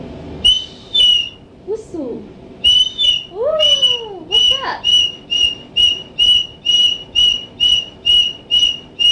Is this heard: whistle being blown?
yes